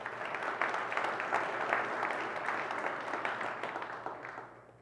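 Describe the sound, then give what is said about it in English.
A crowd of people applauding together, a dense, steady wash of many hands clapping that holds for several seconds before tapering off at the end, with no speech over it. “Praise the Lord for them with a big round of applause.”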